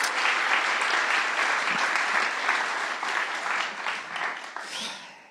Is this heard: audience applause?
yes